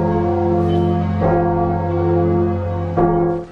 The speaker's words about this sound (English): Is that welcoming the new king? I've never known bells to mean surrender.